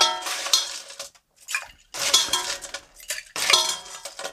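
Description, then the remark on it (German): Three ice cubes clatter into a cocktail glass one after another while a Riesling sparkling wine cocktail is being made, each landing with a bright clinking rattle separated by brief pauses. “3 Eiswürfel.”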